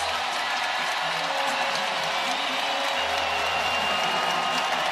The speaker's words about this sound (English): Some are heading for the exits, but I'm curious to see what's going to happen as Klay makes his way over to the tunnel. In the final couple of hugs, he's heading there now. Let's see if they give him a round of applause. And they do.